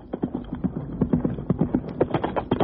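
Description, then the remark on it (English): Horse hooves clip-clop in a steady, brisk rhythm, many distinct knocks at a moderate volume with no voices over them, as Markham rides a horse over to see his neighbours on a bright day after early morning rain. “The day was bright when Markham rode over to see his neighbours.”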